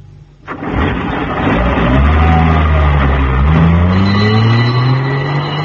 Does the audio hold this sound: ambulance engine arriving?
yes